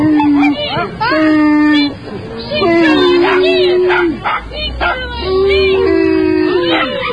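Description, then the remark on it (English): A big dog with stage fright, urged to sing, howls and whines in long, wavering, high-pitched cries with brief breaks between them, loud, sounding anxious and distressed. “The dog has stage fright. The biggest dog has stage fright.”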